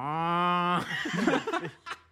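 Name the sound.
cow mooing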